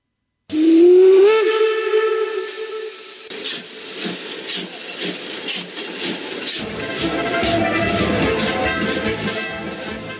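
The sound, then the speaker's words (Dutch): The whistle of a steam train to Irkutsk, Russia, departing at 5 a.m. near Lake Baikal, blows loudly with a rising, sustained tone for a few seconds, then gives way to bursts of hissing steam and rhythmic chuffing continuing to the end. “We konden er nog de nacht doorbrengen op de boot, want de trein naar Irkutsk vertrok pas om 5:00 's morgens.”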